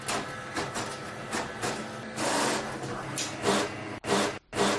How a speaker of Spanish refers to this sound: he grabado uno de esos momentos tiernos en los que intentas imprimir algo, no hay papel, o no hay tóner, o simplemente la impresora se atasca.